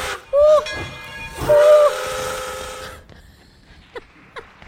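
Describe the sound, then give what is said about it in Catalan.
Two loud blasts of the steam whistle of the 'tren de les flors' train, a short one followed by a longer one, over hissing steam and rail noise, then a few faint clanks as the sound fades. “Sí, corre, Violeta, que el tren de les flors no s'espera.”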